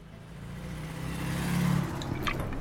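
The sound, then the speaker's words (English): A car engine hums and revs up, its low drone climbing and growing louder through the middle before settling into a steady idle, with no voices present. “Get the car ready.”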